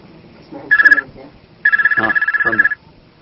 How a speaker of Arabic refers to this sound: لحظة بس خليني أسد الهاتف.